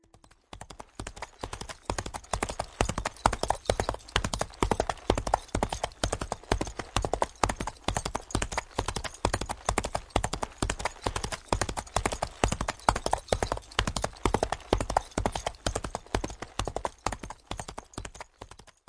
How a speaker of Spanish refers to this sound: Creo que muchos de ustedes descubrieron el sonido sorpresa de hoy. El sonido que escuchamos fue el de un caballo galopando. Cuando el caballo galopa, va muy rápido.